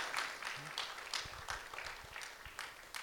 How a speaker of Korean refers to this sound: 우리 그 하나님께 감사와 영광의 박수 좀 올려드릴까요? 네.